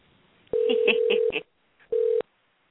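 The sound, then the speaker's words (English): A steady mid-pitched telephone ringing tone from a call placed out of a studio plays with a few quick dialing beeps over it, cuts off, then returns for a shorter burst after a brief pause. No one speaks. “Oh, it's ringing.”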